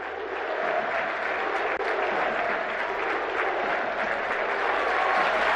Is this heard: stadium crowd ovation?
yes